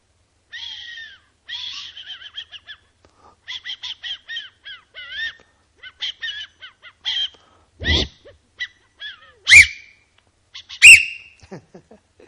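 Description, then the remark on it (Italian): A string of quick, chirpy squeaks gives way to two loud, shrill whistle blasts near the end, sharp like a traffic officer's whistle, blown by a person wearing a traffic warden's glove, with no talking. “Io voglio indossare per l'ultima volta stasera il guanto del vigile e fischiare.”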